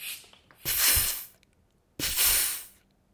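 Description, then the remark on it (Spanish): A balloon pump inflating with two loud, hissing whooshes of air, each lasting under a second and separated by a short pause, with faint clicks before the first stroke. “El inflador hace”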